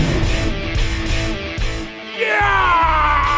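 A man's loud, strained yell rises in pitch and holds near the end, over dense rumbling background noise.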